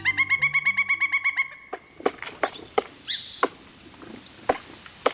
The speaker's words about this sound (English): An expert woodcarver is hard at work, preparing a picnic. This pileated woodpecker is hammering its massive chisel of a bill against the trunk of a cedar tree, making large rectangular incisions, some nearly a foot long.